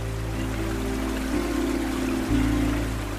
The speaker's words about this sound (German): Sie führen dich zu einem versteckten Wasserfall, dessen Wasser wie flüssiges Silber über die Felsen gleitet.